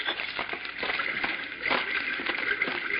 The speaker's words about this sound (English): Oh, I think I hear running water. Yes, you're right.